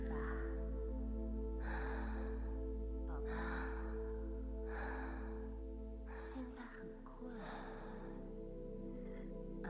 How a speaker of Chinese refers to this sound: 13，12，11，哎呀，宝贝开始打哈欠了。